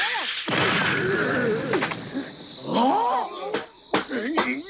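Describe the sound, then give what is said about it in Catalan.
Several sharp, hard slaps land in quick, uneven succession, loud, as someone beats out flames burning on a wild boar's back, mixed with the boar's rough, squealing cries and a dense hissing, crackling noise throughout. “Li apaga l'esquena a cops i li deslliga les potes.”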